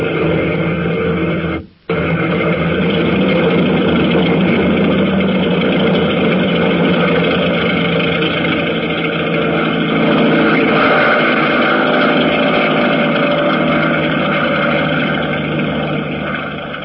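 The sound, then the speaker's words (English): A loud, steady airplane engine roars continuously as the plane is cleared to roll for takeoff, its dense drone briefly cutting out near the start before surging back and holding strong, with no voices over it. “All clear behind you, Phil. Let her roll!”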